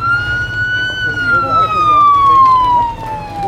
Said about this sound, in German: Macht Platz für die Feuerwehr!